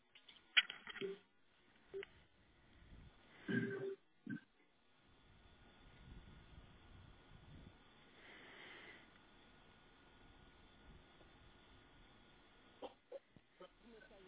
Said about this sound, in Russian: На двух телефонах. Сейчас девушка возьмет трубочку.